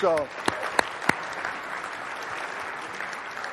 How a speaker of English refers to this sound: So if you're one of these people, you are what we have described as our emerging leaders. Now, let me give the people a round of applause, please.